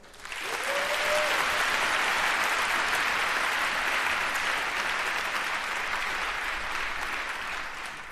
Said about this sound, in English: So please give a huge warm round of applause and welcome